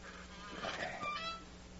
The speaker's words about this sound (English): I've never tried the combination before, but... Suppose you just read it off to me from the paper, huh? All right. 22 left, 14 right, 0. That does it. Now, to swing the door open.